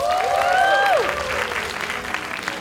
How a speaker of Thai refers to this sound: ขอเสียงปรบมือครับ